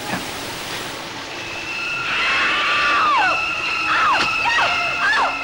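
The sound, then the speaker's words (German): Water from a shower runs in a steady hiss throughout, and partway in, shrill high tones cut sharply across it, sliding downward in repeated stabs over the rushing spray, in the shower scene of a 1960 film where a woman is stabbed with a knife in a motel shower. “Die berühmte Duschszene aus Psycho 1960, in der Janet Leigh unter der Dusche von Anthony Perkins in Stücke zerlegt wird”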